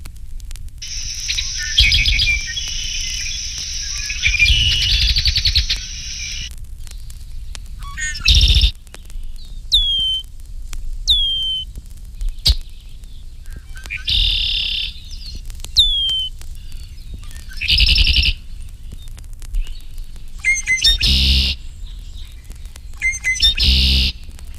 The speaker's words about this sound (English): These red-winged blackbirds give other calls in addition to the familiar conk-a-ree.